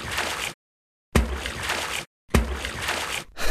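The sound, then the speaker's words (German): Three separate splashes as three sealed bottles are thrown in a high arc out onto the water, each starting with a sharp plunk and trailing off into churning, sloshing water, with brief silences between them. Fairly loud. “Adriano warf die drei verschlossenen Flaschen mit den Geräuschen, die sie gesammelt hatten, in hohen Bogen hinaus auf das Wasser.”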